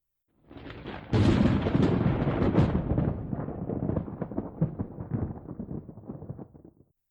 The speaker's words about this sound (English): That lightning shooting over the premises certainly didn't help.